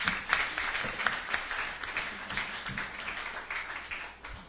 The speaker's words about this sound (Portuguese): Dizer nossos parabéns, nossas palmas para vocês, mulheres, aqui neste dia.